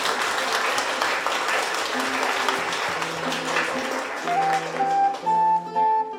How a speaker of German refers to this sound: Applaus, ihr beiden.